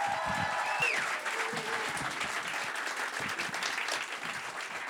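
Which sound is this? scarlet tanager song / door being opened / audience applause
audience applause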